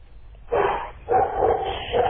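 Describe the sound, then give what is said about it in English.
A dog barks loudly, several sharp, strong barks in quick succession with brief pauses between them, no talking over them. “The dog's barking quite loud.”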